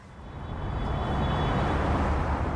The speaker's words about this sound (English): Cars speed on a freeway ringing Johannesburg. Many are going much faster than the 100-kilometer-an-hour speed limit.